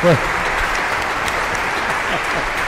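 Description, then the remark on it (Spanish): An audience claps steadily and densely throughout for the priests who hear confession, a sustained wash of applause from a sizable crowd, with a brief voice sound at the very start. “Un aplauso a los padres que confiesan.”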